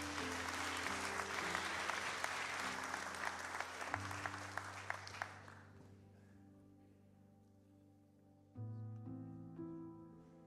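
An audience bursts into loud, sustained applause over a steady musical backing; the clapping fades out after about six seconds while the music keeps playing alone.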